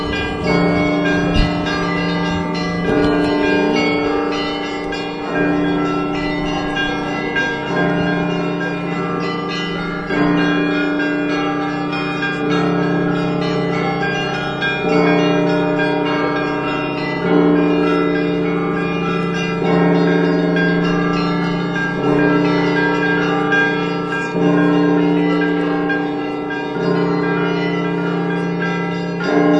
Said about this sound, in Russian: Также паломника встречал торжественный колокольный звон.